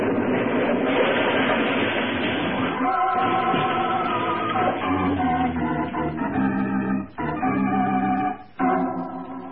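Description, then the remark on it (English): A loud, dense roar of a train wrecking on a trestle after a detonator blast fills the first few seconds, giving way to sustained ringing, grinding tones that cut off abruptly twice. No one speaks. “were driving eastward through the night, far from the scene of the train wreck”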